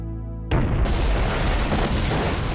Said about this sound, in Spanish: La explosión destruye la parte trasera del avión. Luego explotó y creó un hoyo en el suelo y toda el área se incineró, formándose una bola de fuego que atravesó la nave.